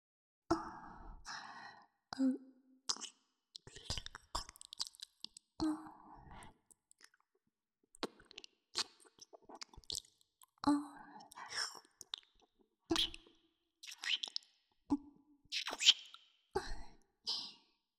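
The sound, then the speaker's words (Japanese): Intimate breathy exhales mixed with wet, sticky mouth clicks and smacks of saliva, scattered irregularly and kept soft, with no talking, as the ear is tickled with mixed breath and saliva. “耳をくすぐってみたりとか、どうですか？吐息と唾液が混ざり合ってとても気持ちいいでしょ。”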